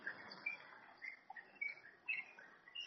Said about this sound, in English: With the background chorus of the birds. Yeah. Just like in Vrindavan.